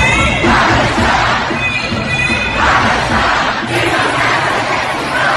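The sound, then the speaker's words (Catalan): A large crowd of thousands of protesters chants and shouts in unison in support of Palestine on the streets of London, voices rising in repeated surges with a dense roar of many people beneath, loud and continuous. “Aquests crits de suport a Palestina amb milers de persones manifestant-se als carrers de Londres en suport als palestins, enmig d'un fort desplegament policial.”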